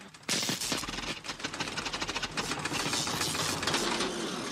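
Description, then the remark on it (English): An overloaded refrigerator motor strains loudly, kicking in abruptly with a harsh, rapid clattering rattle that keeps hammering on without pause, noisy, with no one talking. “You know, call me crazy, but I'm pretty sure refrigerator motors don't sound like that.”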